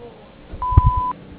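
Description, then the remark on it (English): A single steady electronic beep from the Moshone Landscaping Incorporated answering machine, after its greeting, sounds for about half a second at moderate loudness, with faint low thumps or muffled noise underneath. “We're unable to get to the phone right now, but if you leave your name, phone number, and a brief message after the beep, we'll get back to you as soon as possible.”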